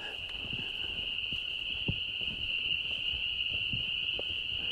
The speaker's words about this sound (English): Can you identify more than one kind of frog here that we're listening to? Because those loud, familiar ones are the peepers. Right. I'm hearing mostly peepers. I was wondering if I might be hearing a different trill, but I can't be sure.